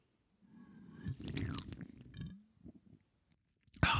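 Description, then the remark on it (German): A long, loud, wet slurp of a drink, airy and gurgling with squeaky whistling tones, followed by a few small smacking clicks and a sudden sharp burst of noise at the end. “Jetzt kommt ein ganz professioneller Schlürfer.”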